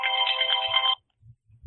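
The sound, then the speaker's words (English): An electronic phone ringtone plays loudly for just under a second, a bright, tonal electronic melody that stops abruptly, followed by a few faint low thumps. “That's your phone, I take it.”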